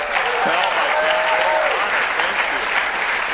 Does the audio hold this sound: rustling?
no